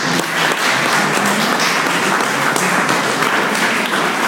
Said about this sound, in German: Vielleicht einen Applaus für Herrn Denninghoff.